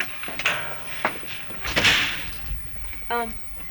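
A door is pushed shut with a loud thud after a couple of lighter knocks and rattles, followed by a brief voiced sound near the end.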